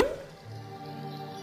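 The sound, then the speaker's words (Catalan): A single hollow pop right at the start, like a cork pulled from a bottle, followed by a sustained musical tone that lingers quietly underneath. “Destapa.”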